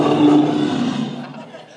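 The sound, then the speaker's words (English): A person's voice imitates a lion's roar in one loud, rough, sustained growl that starts strong and gradually fades over under two seconds. “He goes about imitating the king of beasts, a roaring lion.”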